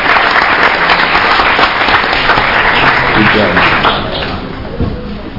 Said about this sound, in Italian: quindi io vorrei un applauso per lui, vorrei ringraziarlo per la sua presenza.